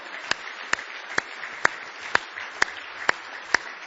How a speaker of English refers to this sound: Give him another hand clap of praise tonight.